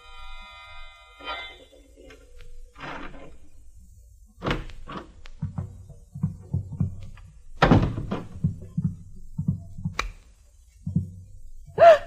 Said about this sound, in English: About midnight, my dreams of a vine-covered cottage in the country with Mallard were rudely shattered by a sound. The sound of a key in the lock of the door.